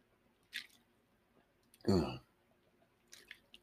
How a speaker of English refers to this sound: So we're continuing on in our study of Ephesians and Ephesians 5, and I'm going to take a quick drink.